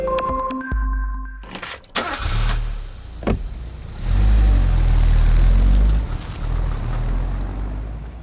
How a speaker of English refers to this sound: Some car sounds are more obvious, like the horn or the engine.